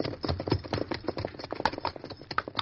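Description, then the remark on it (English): Horse hooves galloping in a quick, steady rhythm of sharp thuds, moderately loud, with no voices over them: the Lone Ranger riding his horse Silver up a trail to the top of a ridge. “I'll take this trail up the ridge here and ride to meet you.”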